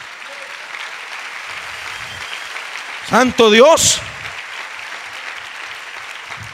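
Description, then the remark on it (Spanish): A church audience claps for God the Father in a steady, dense wash of applause that lasts throughout, while a single voice calls out loudly over it for about a second midway. “Denle un aplauso al Padre.”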